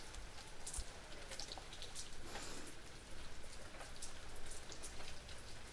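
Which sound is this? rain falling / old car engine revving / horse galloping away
rain falling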